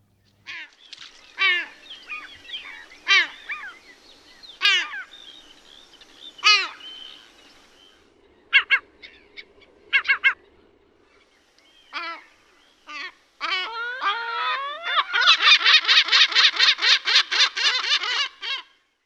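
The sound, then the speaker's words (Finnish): A lesser black-backed gull calls, giving scattered hoarse, drawn-out cries and then breaking into a fast, low, rhythmic cackling run of many notes, with no voices. “Kuultiin siis selkälokin nopeaa ja matalaa kaklatusta, mutta siis miten minä tai muu kaltaiseni voi erottaa tämän äänen sitten niistä muista lokkien äänistä?”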